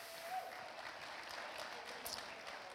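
A crowd applauds steadily for the Lord, a dense wash of many hands clapping at a fairly even level throughout, with no voices standing out.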